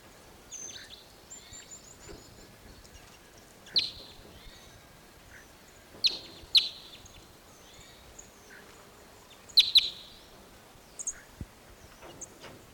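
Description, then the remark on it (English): High, thin bird calls from birds in Apache pine trees, scattered over a quiet background, with a few sharper chirps standing out among fainter twittering. Nobody speaks. “Those birds all went down lower into another Apache pine set.”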